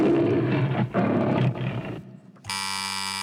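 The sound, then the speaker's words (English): A lion roars loudly in three heavy, growling bursts, the opening of a Metro-Goldwyn-Mayer film. After a short lull, a steady electronic buzzer tone sounds. No one speaks. “The correct answer is the start of any film made by Metro-Goldwyn-Mayer.”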